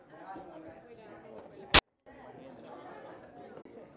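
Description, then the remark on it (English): A crowd of audience members chatting and greeting one another, a steady mix of overlapping voices, broken by one sharp loud click followed by a brief dropout before the murmur resumes. “Greet each other.”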